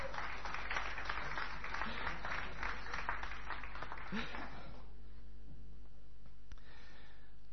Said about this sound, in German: Jetzt danke ich euch von ganzem Herzen, wir verdienen echt einen Applaus.